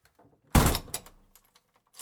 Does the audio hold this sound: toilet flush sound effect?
no